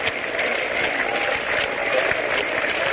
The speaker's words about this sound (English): Crowd is beginning a sort of a half-hearted hand clapping.